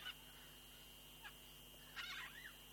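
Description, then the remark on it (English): Several short, honking bird calls ring out at intervals, faint, with a brief cluster near the end, over a steady outdoor background hum and no talking, in Sorkhe Hesar, Iran, during the cold season. “Oh, the sound of these birds is very beautiful.”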